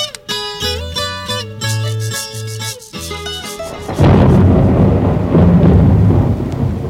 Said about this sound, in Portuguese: Nossa, que tempestade, hein?